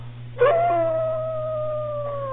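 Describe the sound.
A person imitates a wolf with one long, wavering howl that rises sharply, then holds and slowly sinks in pitch for about two seconds, fairly loud over a low steady hum.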